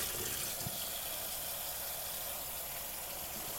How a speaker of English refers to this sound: Perhaps you take a moment to rinse it out, watching each time water washes away some of the soap, some of the food. We add more water, and a little bit more disappears.